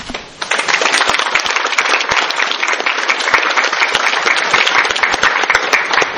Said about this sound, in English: Every year I say, I don't know if the applause are for him or that I'm leaving the podium, but for all the entertainment you provide us with time.